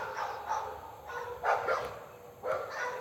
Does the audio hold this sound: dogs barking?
yes